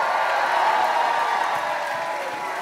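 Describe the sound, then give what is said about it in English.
An audience at a revival sermon claps and shouts together in a loud, continuous wash of applause and raised voices that holds steady for a few seconds, with no single voice standing out. “If you're one of them, let God hear your hand clap and shout.”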